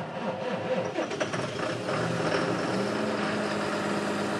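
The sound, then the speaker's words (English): A huge farm tractor's diesel engine on a family farm rumbles loudly, its pitch wavering briefly at first before settling into a steady, continuous drone with no voices. “He had to build a shed the size of a warehouse for his machines, like this monster tractor.”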